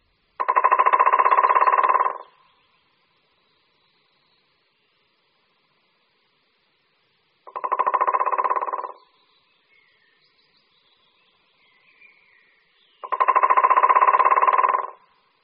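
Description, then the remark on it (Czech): A white-backed woodpecker drums three times: long, rapid, rattling rolls of about one and a half to two seconds each, separated by pauses of several seconds, with no voices. “Slyšeli jsme bubnování strakapouda bělohřbetého.”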